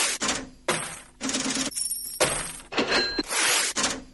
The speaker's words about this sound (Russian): Открывает композицию «Звон монет» и звук кассового аппарата, который был взят из библиотеки шумов, а «Звон монет» и звук рвущейся бумаги, имитирующие отрывание чека, записывались в домашних условиях и позднее тщательно монтировались вместе с записями